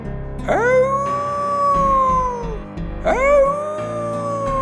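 Two long, mournful wolf howls, each rising sharply and then holding a steady wavering tone for a couple of seconds before trailing off, loud, with no talking.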